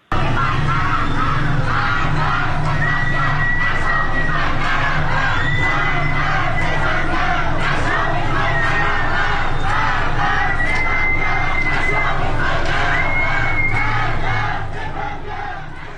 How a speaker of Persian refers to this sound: در خیابان جمال‌زاده تهران معترضان زیادی امروز شعارهایی می‌دادند. اگر ویدیوش آماده هست می‌تونیم صدای اون رو بشنویم.